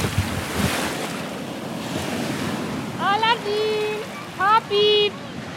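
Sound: ocean surf waves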